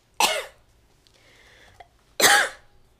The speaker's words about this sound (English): I have to cough.